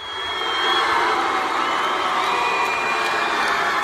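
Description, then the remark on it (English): A large crowd roars continuously, a dense wash of cheers, shouts and boos mixed together, with scattered high whoops cutting through, loud and sustained for the whole stretch. The crowd reacts after a transgender wrestler's controversial win of a Texas high school wrestling state championship match. “Here's the crowd cheering and booing after the match.”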